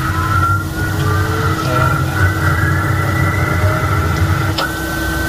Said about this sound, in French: Maintenant, on peut mettre le premier moteur en route. Voilà, donc on entend le premier moteur qui se met en route. Le son va monter fortement.